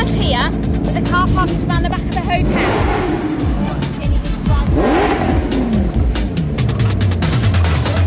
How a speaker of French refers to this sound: C'est quoi ça comme voiture? Ferrari.